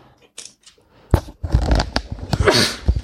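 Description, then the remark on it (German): Two sneezes, each a sudden, loud, breathy burst, about a second and a half apart. A rustling noise fills the gap between them, and there is no talking. “Sorry, ich muss immer zweimal niesen.”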